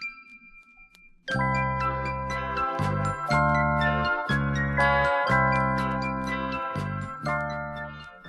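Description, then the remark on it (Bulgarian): A music box, its spring just wound, plays a tinkling melody of bright, bell-like notes, starting after a second of quiet and continuing steadily in a gentle rhythm, with no voices. “Звънеше чудна, пречудна музика.”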